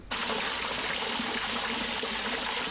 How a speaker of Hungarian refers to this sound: A Tisza városi szakaszán folyamatosan szivárog a víz a partfalon keresztül. Ellennyomó medencék kiépítésével próbálják megállítani a csorgást, de ezek is folyamatosan telítődnek.